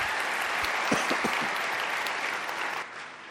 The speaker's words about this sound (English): And I, in turn, will ask, would you please give a round of applause to Johan for that introduction.